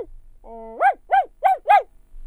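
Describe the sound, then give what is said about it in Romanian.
A dog named Patrocle, far away in a forest, gives a short whine, then four evenly spaced, ringing barks, with nobody speaking over them. Each bark is loud and clear against a quiet background. “Se auzi glasul cățelului răsunător departe în pădure.”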